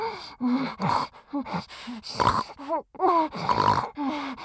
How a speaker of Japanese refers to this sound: ああ、豚みたいに、鼻の穴かっぴろげたかげまくる。